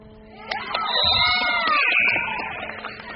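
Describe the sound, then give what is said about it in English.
A large arena crowd roars in cheers after Destiny Nolan makes the first of two free throws with about 21 seconds left on the game clock, swelling quickly to a loud, sustained wash of shouts and whistles, then gradually fading. “Listen to the crowd's reaction.”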